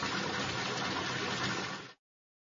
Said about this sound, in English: It's raining hard. You're running in the rain.